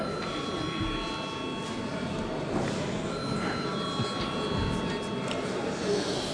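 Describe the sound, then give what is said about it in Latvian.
A parliament chamber bell rings steadily before deputies vote on sending a bill amending the child rights protection law to committee, a sustained electric tone with several high harmonics holding for the whole stretch over a low murmur of background noise. “Lūdzu zvanu.”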